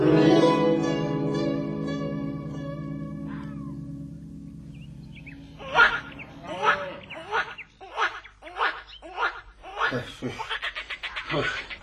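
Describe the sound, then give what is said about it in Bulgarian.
Frogs croak in a quick series of rasping bursts, roughly eight or nine evenly spaced calls, after a long, low, steady humming tone fades out. “Не. Това са жаби, но скоро ще чуем и Славия.”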